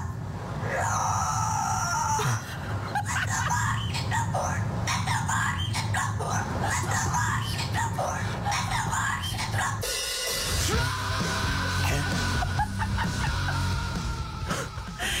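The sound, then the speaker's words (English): A cockatoo makes loud, raspy squawks and harsh screeching cries almost nonstop, with a brief pause partway through before the rough, strained calls start up again. “I just bought a cockatoo from a guy on Craigslist, and it keeps on making these...”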